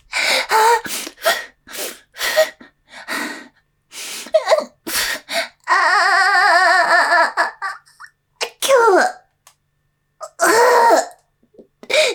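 A close, loud coughing fit: a rapid string of harsh, breathy bursts and gasps, broken by a drawn-out voiced moan before a few more coughs and a final strained cry.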